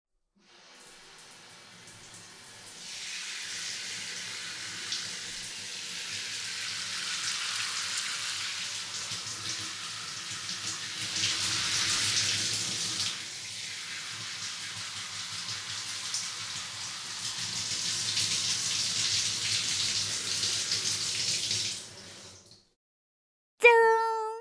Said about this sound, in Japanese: それではもう一回だけシャンプーさせていただきますね。このままやっていきますので、はい、そのまま楽にしててください。シャワー失礼させていただきます。